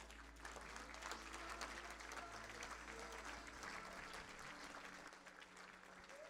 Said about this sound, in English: Come on, just give the Lord a clap right now.